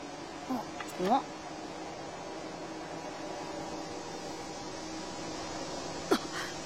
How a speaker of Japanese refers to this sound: これ羽音だ。 うわー、ブナハブラの群れだ。